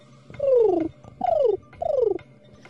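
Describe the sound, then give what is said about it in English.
A person imitates a pigeon with three throaty, warbling coos, each sliding downward in pitch, separated by short pauses and sung alone with no talking. “Do you want my pigeon impersonation?”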